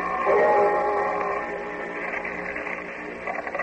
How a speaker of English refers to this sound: It began as the clock on the Church of Dismas Belief around the corner was hammering out the hour of 4.